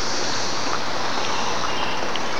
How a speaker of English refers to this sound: Okay, I'm gonna see how this is gonna pick up. See if we can hear some cicadas.